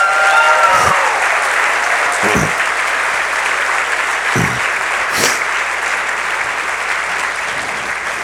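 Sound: audience applause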